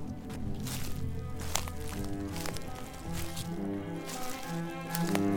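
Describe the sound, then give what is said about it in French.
Footsteps crunch and squish over soft ground at an uneven walking pace, with a steady low droning hum running underneath and no one speaking. “crois que je pourrais enregistrer tes bruits de pas?”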